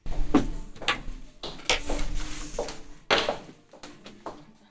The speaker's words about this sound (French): La porte, hop là.